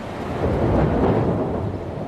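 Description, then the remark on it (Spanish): A deep, sustained rumble of thunder from a storm over the Madrid region of Spain rolls steadily for a couple of seconds, loud and broad, with a faint hiss of rain underneath and no voices. “Hoy podría repetirse este sonido desde el cielo de Madrid.”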